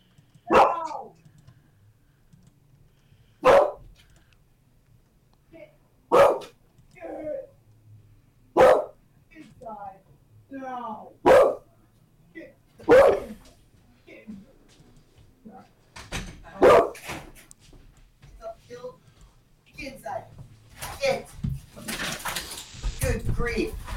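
dog barking

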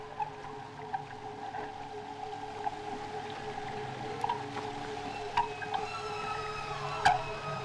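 whale call

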